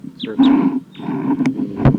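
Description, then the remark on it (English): A wild bird perched in the treetops calls loudly right after a recording playback stops, a run of harsh, rough cries with a few downward-sliding high notes woven in, filling the whole two seconds without pause. “That's the wild bird who started calling loud immediately after the playback stopped.”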